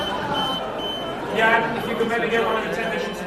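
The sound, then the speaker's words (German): A short electronic alarm tone sounds, a bright buzzing beep with a steady pitch, rising over the murmur of a room full of people, as the auctioneer's hammer falls on the final bid for a painting at a Sotheby's auction. “Als der Hammer fällt für das letzte Gebot auf das Bild, da setzt ein kurzer Alarmton ein.”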